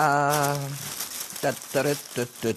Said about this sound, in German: Jetzt hör auf zum Rascheln.